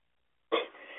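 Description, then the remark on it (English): After a beat of silence, a harsh cough bursts out abruptly and trails into raspy, wheezy breathing, the start of a coughing fit with no talking. “It's got the whooping cough going on here.”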